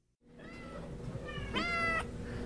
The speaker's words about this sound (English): At Juneau Animal Rescue, cats cry out from kennels at the sound of kibble in a bowl.